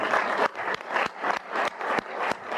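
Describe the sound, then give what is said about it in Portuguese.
An audience at the opening of the CELAC summit applauds Brazil's return to CELAC, at the call of Argentine president Alberto Fernández: a dense, continuous wash of many hands clapping, steady and fairly loud, with sharper accents recurring at a regular pulse throughout. No one speaks. “Quero pedir-lhes a todos um enorme aplauso para celebrar o retorno do Brasil à CELAC.”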